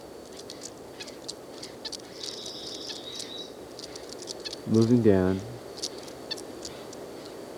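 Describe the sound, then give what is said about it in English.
Faint, high, squeaky nasal calls from two white-breasted nuthatches in the same tree come in short repeated bursts among scattered chips, with wind blowing. A man speaks briefly partway through. “They're both making low squeaky noises.”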